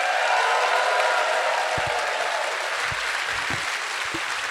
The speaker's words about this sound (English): Clap your hands for the pair of them.